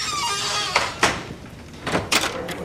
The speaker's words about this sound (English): First, she goes into the hall, making sure to lock the door behind her.